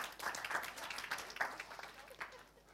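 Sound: golf clap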